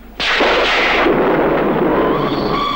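A sudden, loud thunderclap, as lightning lights up a lonely alley, cracks sharply and then rolls on as a heavy, sustained rumble that fills the whole moment, powerful, with no voices.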